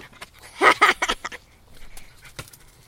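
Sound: dog barking and panting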